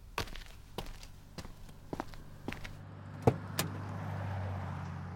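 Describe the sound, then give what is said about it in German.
A smelly canister is set back down in its row inside a car: several light knocks and shuffles, then a heavier thunk and a clunk, over a low steady rumble. “Achtung, ich stelle jetzt den Kanister wieder zu der Reihen.”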